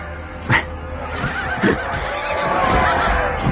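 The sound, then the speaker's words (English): Horses whinny amid a noisy, busy background, with a couple of short, sharp snort-like bursts early on and a wavering neigh drawn out toward the end. “These horses are... They look like that horse from the Preakness.”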